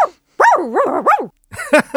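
Loud, a dog gives a long, wavering run of barks and yowls, goes quiet briefly, then lets out a couple of sharp, higher yips. No one speaks.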